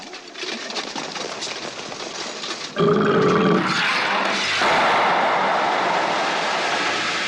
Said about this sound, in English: Boy, that was some belch. We thought you were going to take a leak.